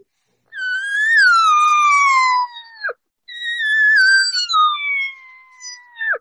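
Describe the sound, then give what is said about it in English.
A person imitates a cow elk's whining 'regathering mew', a call cows give to bulls: two long, high, nasal calls that start strong and slowly slide downward in pitch, each ending with a brief break, with no talking. “And I'll give him that whine. I can't tell you how many times I've watched cows do this to bulls.”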